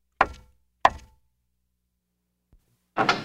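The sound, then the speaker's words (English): Two firm, resonant knocks on a wooden door in a town, spaced about half a second apart, followed by a pause and then a burst of rustling, rattling noise. “Let's go knock on that door and find out.”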